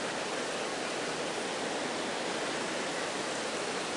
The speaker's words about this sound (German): Ich habe für einen Moment gezögert, ob ich zu sprechen beginnen soll, damit es ruhig wird, aber das seid gar nicht ihr, sondern es ist der Regen außerhalb.